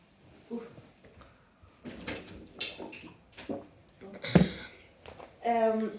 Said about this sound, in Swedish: Jag måste öppna dörren. Det är så jävla varmt.